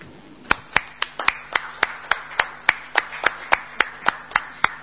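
Council members applaud in a steady, even rhythm of sharp, distinct claps, about three or four per second, loud over a faint hum, with no talking.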